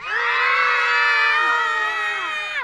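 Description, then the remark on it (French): Several high, shrill voices, as the three little pigs covering their ears after a bomb explosion, scream loudly together in one sustained, overlapping wail, holding steady for over two seconds before the pitches slide downward and break off. “Les trois petits cochons se bouchent les oreilles et crient très fort.”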